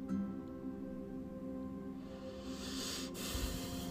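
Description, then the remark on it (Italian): A soft, airy breath swells into a gentle exhale hiss over a steady low hum, growing slightly louder in the second half before fading out with a faint rustle. “Un leggero respiro.”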